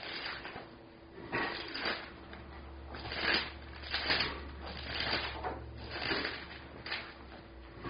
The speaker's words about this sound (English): Hear those pages turning. Matthew 25:21.